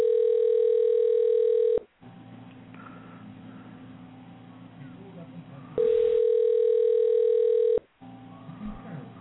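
A phone line rings out as a call is placed: two long, steady, buzzing ring tones about two seconds each, separated by a gap filled with low, rumbling line noise, with a third ring just starting at the end.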